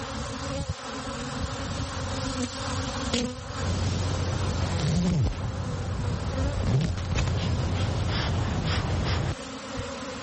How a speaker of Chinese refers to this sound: 在位于纽约第六大道和53街路口的忠诚希尔顿酒店的屋顶上，一群蜜蜂正在辛勤的劳作。